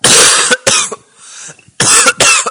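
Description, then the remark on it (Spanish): Four harsh, loud coughs from a caller on the phone come in two quick pairs, separated by a short quiet pause, with no talking. “Pero eso no es lumbago. Eso es una tos.”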